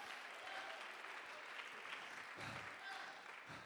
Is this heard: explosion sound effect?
no